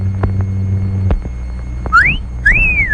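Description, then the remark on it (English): A two-part appreciative wolf whistle, a quick rising sweep followed by a longer rise-and-fall, sounding clear after a low electrical hum fades out. “Yes, sir, the hot dogs at our concession stand do rate an appreciative whistle.”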